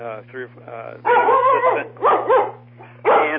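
A dog barks in a few loud, strained bursts with short pauses between them, preceded by softer yipping, over a steady low electrical hum.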